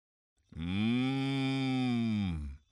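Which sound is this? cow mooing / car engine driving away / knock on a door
cow mooing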